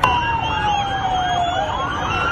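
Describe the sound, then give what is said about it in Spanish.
Several ambulance and police car sirens wail at once on a main avenue in central Damascus, Syria, amid celebrating crowds, their overlapping tones rising and falling continuously and loudly over a low rumble of street traffic. “La población siria que sigue de fiesta, ambulancias y coches de policía hacían sonar sirenas en esta avenida principal, donde muchos están saltando del toque de queda para seguir celebrando con sus nuevas estrellas, los admirados milicianos rebeldes”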